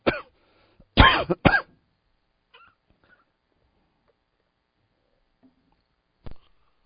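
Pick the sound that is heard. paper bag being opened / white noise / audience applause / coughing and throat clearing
coughing and throat clearing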